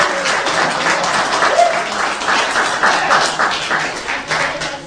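A crowd applauds steadily, many hands clapping in a dense, sustained patter that stays fairly loud throughout with no voices rising above it.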